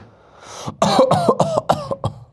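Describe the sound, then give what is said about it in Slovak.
A voice imitates a man's persistent cough heard constantly from the neighbouring room: a wheezy intake followed by a quick string of six or seven harsh coughing bursts in steady rhythm, with no talking. “A počul som ho, keď som zaspával, počul som ho, keď som vstával, jak stále kašle z vedľajšej izby.”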